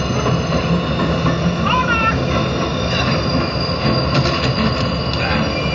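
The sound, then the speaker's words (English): A loud train rumbles steadily along the rails, its wheels letting out high, metallic squeals in short bursts over the heavy mechanical roar. “don't get on the train.”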